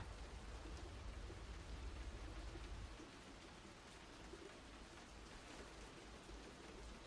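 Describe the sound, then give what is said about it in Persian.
Steady rain pours down in a dense, continuous hiss, with a deeper low rumble in the first few seconds that then eases off while the downpour carries on evenly. “مثل این که بارون نمیخواد بند بیاد.”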